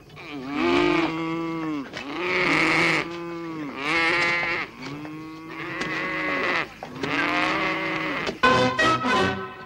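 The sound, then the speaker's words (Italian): Cows moo loudly, one long drawn-out call after another in steady succession, with the last few lowing calls crowding together near the end. No one speaks. “È venuta la nostalgia della campagna da casa mia. Namo, muggite!”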